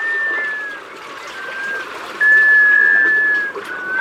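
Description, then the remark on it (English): A black scoter duck gives long, musical whistling calls, drawn-out and steady in pitch, repeated about three times over a constant wash of water noise. “An unmistakable clue to their presence? That mysterious, musical whale.”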